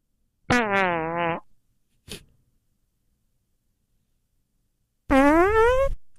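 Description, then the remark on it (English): Two loud, buzzy fart sound-effect drops, each about a second long with a wobbling pitch, separated by a short click and about 2.5 seconds of silence. No one speaks. “It was only 2.5 seconds of silence before he fired off the fart drop.”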